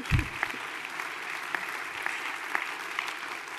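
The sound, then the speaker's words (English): A room full of people claps steadily after a speaker announces a 2.5% pay increase for university faculty and staff, a dense patter of hands with a few sharper claps standing out, lasting several seconds without any talking. “Now, if you don't applaud for that one...”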